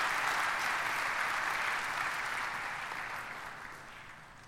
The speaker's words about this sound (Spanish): Por eso brindémosles otro aplauso fuerte y cariñoso de felicitación y compromiso.